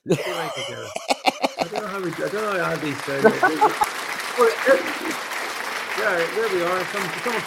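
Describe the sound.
A burst of crowd applause, dense steady clapping that carries on for several seconds while voices talk and call out over it.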